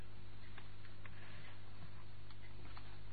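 A clock ticks quietly and steadily at 8:30, its faint clicks spaced at a regular, unhurried pace over a low background hum, with no one speaking.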